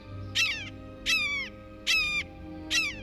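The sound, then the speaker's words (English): A blue jay mimics a red-shouldered hawk, giving four loud, harsh, downslurred screams at a steady, evenly spaced rhythm, with a low hum beneath and no talking. “Though they don't have the same reputation for mimicry as mockingbirds and thrashers, blue jays have an unnerving habit of impersonating raptors, especially red-shouldered hawks.”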